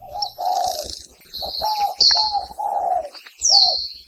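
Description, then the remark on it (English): A spotted dove sings a run of low, hollow cooing notes in a steady, repeating rhythm, fairly loud, while thin high-pitched chirps from other birds overlap throughout. No one speaks. “We've got an all-too-familiar bird song for you today, courtesy of the Cornell Lab of Ornithology.”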